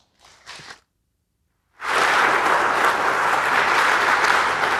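After a brief faint sound and a short silence, an audience breaks into loud, sustained applause for a talk titled Deploying a LoRaWAN Network, dense clapping from many hands that continues steadily to the end.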